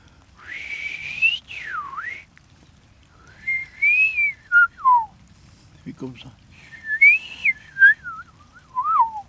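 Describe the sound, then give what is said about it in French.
A person whistles an imitation of the song of a blackbird, a black bird with a yellow beak: several fluting, warbling phrases with sliding pitch, fairly loud, separated by short pauses, with a brief spoken word in the middle. “Comme ça, il fait le machin, le merle.”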